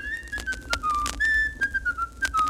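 Someone whistles a short, simple tune, holding clear notes that slide gently up and down in pitch, with faint clicks and background noise.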